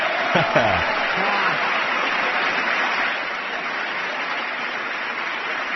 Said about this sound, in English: Nice applause on that one.